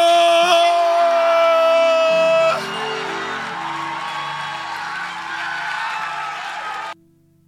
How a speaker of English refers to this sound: So tighten your seatbelt, clap your hands, or keep clapping your hands, and let's welcome